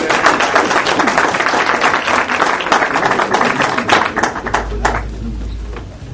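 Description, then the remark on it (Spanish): An audience gives another deserved round of applause to Doctor Mauricio, a dense patter of many hands clapping at full volume, beginning to thin and soften over the last couple of seconds as a low rumble comes in. “Vamos a darle otro merecido aplauso al doctor Mauricio.”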